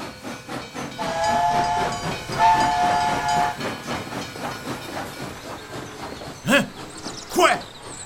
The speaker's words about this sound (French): Question de voir un cheval de fer sur nos terres. C'est assez pour que nos vaches donnent plus de lait. Qui passe donc ailleurs, ce train-là? En 1854, l'arrivée du train marque une révolution industrielle.